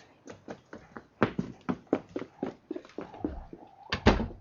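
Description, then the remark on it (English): Someone knocks on a door in a long, uneven series of sharp raps, about a dozen or more. The last two blows are the loudest. No voices are heard. “Another knock to knock at. No end of doors to knock at.”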